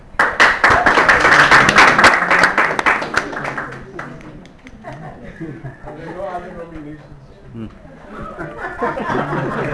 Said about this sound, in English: I was overtaken by the excitement and the clapping.